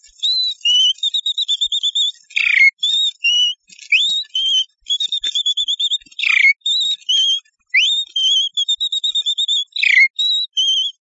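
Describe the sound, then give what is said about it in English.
A wren, a small bird, whistles its song loudly in the early morning: repeated phrases of rapid high trills broken by sharp upward slurs, continuing steadily with brief pauses and no talking. “A wren is a small bird that whistles early in the morning like this.”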